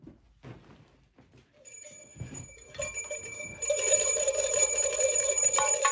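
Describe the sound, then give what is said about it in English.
Two bells ring together for a show segment called Two Bell Tuesday in a continuous metallic clatter, starting faint and growing louder and brighter as the second bell joins in and both keep ringing steadily to the end. “It's Two Bell Tuesday.”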